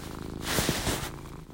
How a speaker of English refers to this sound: I'm hoping you can hear her purr. When I do that, I'm putting my phone by her little purring, beautiful self.